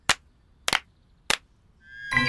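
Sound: hands clapping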